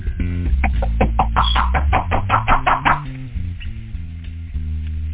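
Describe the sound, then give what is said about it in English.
A rapid burst of about a dozen loud knocks on a door, quick and insistent, over a steady low hum that continues after the knocking stops. “They're knocking at this time right now.”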